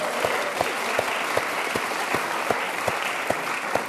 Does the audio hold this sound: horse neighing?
no